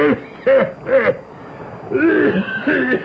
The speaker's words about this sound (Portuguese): Ai, maldita tosse.